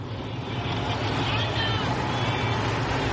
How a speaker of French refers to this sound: Nous roulons en voiture dans le sud de l'Afrique du Sud. L'océan Indien n'est pas bien loin, le paysage est vallonné.